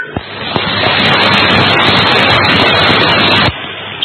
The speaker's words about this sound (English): yes, certainly hear the engine room in the background. It has that sort of sound to it, but very good indeed.